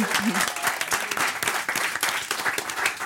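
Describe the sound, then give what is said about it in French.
A crowd applauds steadily to thank a guest, the author of a guide to children's books, dense overlapping claps forming a continuous, fairly loud wash of sound with no pauses, a brief murmur of voices barely audible beneath it. “Alors on lui dit merci, on l'applaudit.”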